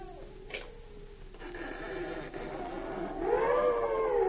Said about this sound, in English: One stormy night, very late, the cobbler was bending over his bench, his wife sat before the dying fire, when above the lashing of the rain, they heard a cry at the door. That sounds like a baby.